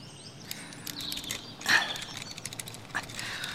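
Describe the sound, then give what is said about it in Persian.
A key taken from Stanley Hopkins's pocket scrapes and clicks inside the lock of a wooden cabin door, a few metallic ratcheting turns and a sharper click near the middle, fairly quiet with no voices. “استنلی هاپکینز کلیدی از جیبش در آورد تا قفل در را باز کند.”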